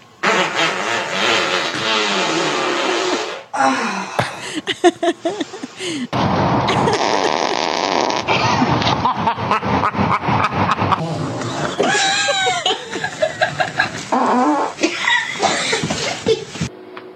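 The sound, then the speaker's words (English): A rapid run of varied fart sound effects, loud, one after another, ranging from long buzzy rumbles to short sputtering blasts and squeaky, pitch-bending toots. “I like that there's a full range of farts.”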